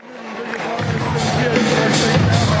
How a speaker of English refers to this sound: the lights just went down, and people are cheering for …